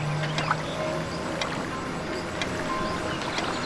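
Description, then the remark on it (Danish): Water trickles and babbles steadily throughout, a constant bubbling wash with small scattered splashes and clicks, at an even, moderate level and no voices. “Ret opmærksomheden på lyden af vandets rislen.”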